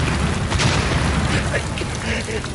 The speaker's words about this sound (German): im kalten, stinkenden Schleim eines Schützengrabens, irgendwo zwischen Ypern und Saint-Quentin, betäubt vom schädelerschütternden Donner der schweren deutschen Geschütze